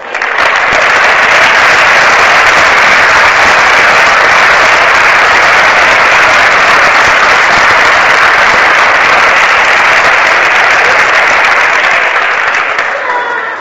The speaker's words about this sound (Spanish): Damos un aplauso al Señor por ellos.